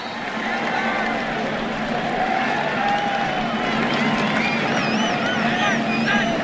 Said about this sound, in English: And a good snap from Jake. Listen to the crowd. Look at the USC sideline. What a moment.